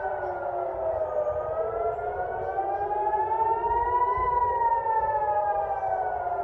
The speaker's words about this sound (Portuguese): Tem vídeo do Iron Dome funcionando aqui mais uma vez. Ah, esse é do Iron Dome funcionando? É, para salvar Israel. Sirene ligada.